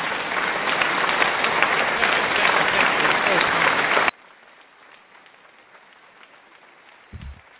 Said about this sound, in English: Shouts out to Georgia and New Jersey, man. Round of applause.